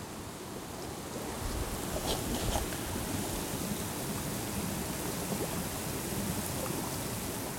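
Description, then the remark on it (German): Hot spring water bubbles and gushes steadily out of rock, a continuous wash of churning, gurgling water with no voices. “Dann kommt das heiß aus dem Fels. Warum blubbert das denn da so?”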